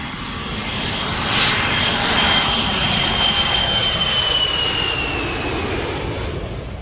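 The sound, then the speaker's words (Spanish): A jet airplane engine roars steadily at O'Hare airport in Chicago, a broad loud rumble with a high whining tone that gradually slides downward, sustained for several seconds with no talking. “El aeropuerto O'Hare cuenta con el mayor tráfico aéreo del mundo, 185.000 pasajeros al día con un total de 67 millones de personas al año.”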